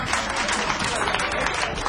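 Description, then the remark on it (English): An audience claps steadily at a live music recording, dense applause filling the whole stretch at an even, fairly loud level with no pauses or talking. “Thanks for the claps.”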